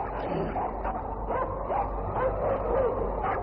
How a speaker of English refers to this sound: Wolves again? No, it is dogs of Eskimo. Someone come.